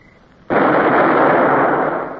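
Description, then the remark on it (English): A single loud, sudden blast from a ship's cannon, fired by a gun crew at Spanish vessels, followed by a sustained rumbling roar that echoes off the hills and slowly fades. There is no speech. “The gun crew sweated as they fired. The sound of the shots echoed off the hills.”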